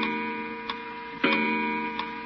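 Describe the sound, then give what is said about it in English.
An old pendulum clock, just wound by yanking its chain to raise the weight, ticks at a slow, even pace, a few distinct clicks standing out over a steady droning hum in the background. No one speaks. “This isn't a bad old clock, huh?”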